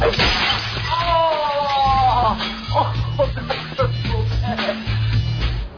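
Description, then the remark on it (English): Glass shatters with a bright, crashing burst, followed by scattered tinkling and clattering debris over a steady low rhythmic backing, with a voice briefly audible in the mix. “No, that glass. I just replaced it.”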